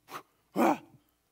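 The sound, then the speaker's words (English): A dog barks twice, a short sharp woof followed by a louder, fuller bark that trails off into a low growl, with quiet pauses around them. “But you know, the more this dog understands that I'm the pack leader, and that we don't kill goats, the more he looks to me and doesn't notice the trigger.”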